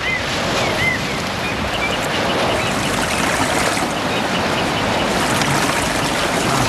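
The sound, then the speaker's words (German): Water is pumped into a deep, tarp-lined pit, rushing and splashing steadily, a loud, continuous churning that doesn't let up, with a few faint high chirps early on and no voices. “Diese legten sie mit der Plane aus und pumpten Wasser hinein.”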